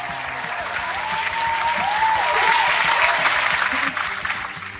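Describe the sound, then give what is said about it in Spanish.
A live audience in a rented auditorium claps steadily for several seconds during a show recording, a dense wash of hand claps that swells slightly midway, with faint voices and a soft tonal hum beneath the applause. “Oye, pues sí, hoy ya con público en vivo, ya tenemos audiencia, ya alquilamos un auditorio y vamos a grabar desde ahora para siempre con público en vivo que nos van a aplaudir.”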